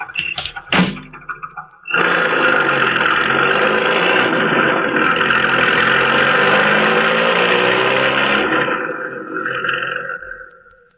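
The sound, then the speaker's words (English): A few quick thumps, then a car engine roars to life and revs loudly and steadily for several seconds before easing off as the driver gets back in and the car speeds away from beside a vacant lot. “Then, when the task is completed, the driver re-enters the car and speeds away.”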